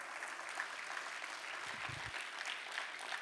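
An audience claps together in a church, a dense, steady wash of many hands applauding with no pauses, fairly loud and filling the space, giving the Lord a hand clap of praise.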